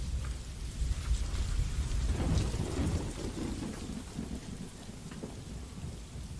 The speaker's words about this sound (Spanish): Explosión. Estallido en la ciudad condal. Rugido entre compras de supermercado de un domingo rutinario.